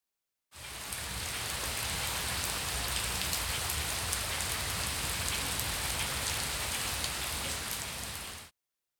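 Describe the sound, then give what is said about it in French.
Steady rain pours down, a dense, continuous hiss of drops pattering on a hard surface, loud, with no voices and no breaks from start to finish. “I can hear the rain.”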